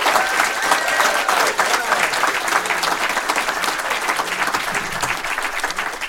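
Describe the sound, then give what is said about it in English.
Sustained audience applause fills the whole stretch, a dense, steady wash of many hands clapping at an even loudness, with no talking over it. “Very warm round of applause for.”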